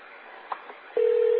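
A steady telephone ringing tone on a call to a guest room starts partway through and holds loud and unbroken to the end, after a brief stretch of faint, narrow-band phone-line hiss with a couple of small clicks.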